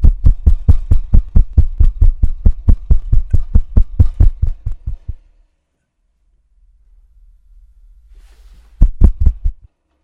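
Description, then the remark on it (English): Loud, rapid banging on recording equipment, a steady string of about twenty dull thumps, then a low hum and a brief second flurry of knocks near the end. No voices. “No banging on the equipment.”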